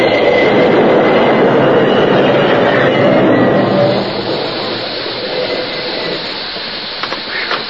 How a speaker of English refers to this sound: The train responded slowly to his efforts until just a few yards from the gaping space where the bridge used to be, it came to a complete stop.